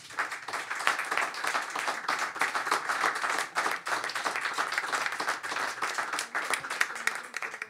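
An audience applauds a cabaret comedian for an applause-meter vote, steadily for several seconds, a dense wash of many hands clapping at an even, sustained loudness with no voices standing out.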